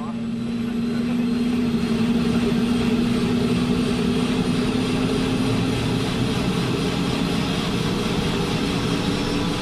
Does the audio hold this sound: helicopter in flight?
yes